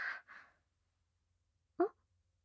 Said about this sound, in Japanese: ねえ、君、今、あくびしなかった？もしかして、君も寝不足気味？